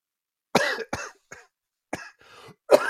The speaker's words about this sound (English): God, I hate this cough.